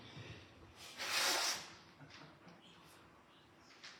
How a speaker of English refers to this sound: Sorry, I'm just going to blow my nose.